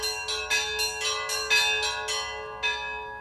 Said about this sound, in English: two smallest bells, usually, and I will usually set up a rhythmic pattern, which usually sets the speed that we're going to operate at. And the other bell ringers will join in, basically taking the same tempo that I have, but with their own rhythms.